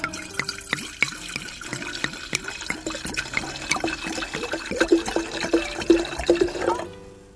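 Sake is poured into cups in a steady gurgling stream with many small glugs and splashes, rising toward the end before cutting off abruptly, with no voices over it.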